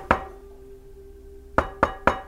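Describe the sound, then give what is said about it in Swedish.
Sharp knocks on a window in the evening, someone rapping on the glass: a single rap, a pause of about a second and a half, then three quick evenly spaced raps, fairly loud against a faint steady hum. “Då hör jag två tydliga knackningar på fönstret. Det låter liksom”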